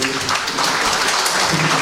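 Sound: applause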